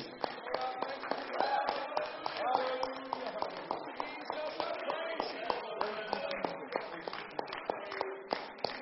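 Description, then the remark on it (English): A crowd claps hands to praise Jesus one more time before being dismissed, in a dense, steady burst of sharp slaps lasting about nine seconds, with voices calling out underneath the applause. “Let's clap our hands to Him one more time before we're dismissed.”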